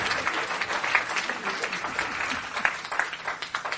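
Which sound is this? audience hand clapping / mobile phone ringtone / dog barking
audience hand clapping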